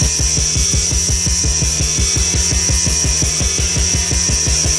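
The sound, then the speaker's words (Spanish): Industrial noise music: a loud, unrelenting loop of grinding, saw-like mechanical pulses repeating in a fast, steady rhythm over a constant harsh hiss and a shrill high whine, with no voices. “son 10 minutos y medio de ruido industrial auténticamente aterrador, una especie de equivalente sonoro de cabeza borradora.”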